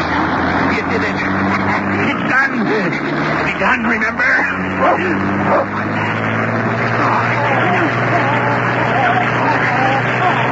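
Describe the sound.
Dogs bark and yip repeatedly in a dense, continuous clamor, mixed with a steady engine-like rumble and some indistinct voices in the background.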